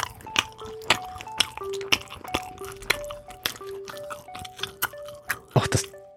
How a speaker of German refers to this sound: Das kracht ja richtig beim Kauen. Na ja, klar dann. Das heißt ja Spreewaldgurke. Spreewald in Brandenburg.